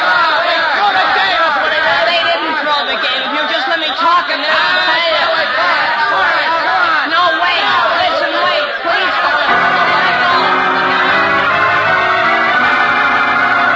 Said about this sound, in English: Shouting wildly, the angry mob of students surges forward against the locked door,